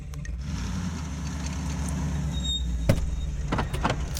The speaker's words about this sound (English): Okay, so I'm now setting up in the back of the van here. Pulled over, but there's a traffic noise that I'm worried that you might be hearing. I'm gonna shut the van doors completely.